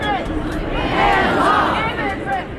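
A large outdoor crowd of several thousand people at a protest in Madison, packed on the Capitol steps and down State Street, many overlapping voices shouting and chanting together in a steady dense roar with no single voice standing out.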